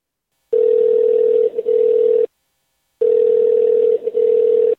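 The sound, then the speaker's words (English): A steady telephone tone sounds twice as a phone call is placed, each burst lasting nearly two seconds with a short pause between, clear and fairly loud with no talking. “So let's get him on the phone and see how it goes.”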